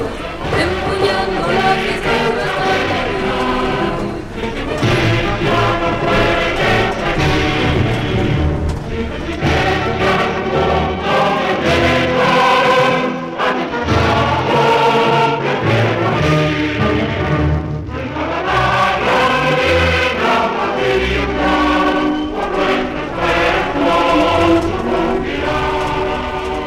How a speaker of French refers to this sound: Vive la faille, les cris « Vive la faille, vive la CNT » alternaient avec les couplets des chants anarchistes. Ou l'hymne des jeunesses libertaires.